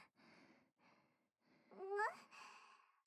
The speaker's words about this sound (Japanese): なんか息切れてる？